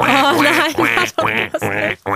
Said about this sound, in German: Enten klingen wirklich wie dieser nervige iPhone-Ton, den man einstellen kann.